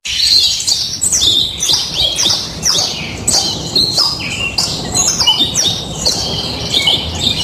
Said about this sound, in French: Alors effectivement, des oiseaux. Alors j'ai mis des oiseaux en cage.